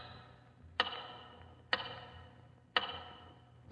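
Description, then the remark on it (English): A big tower clock ticks steadily, about one sharp, resonant tick per second, each with a short ringing tail over a low, quiet background hum. No voices are present. “Once again, your eyes wander to the big tower clock.”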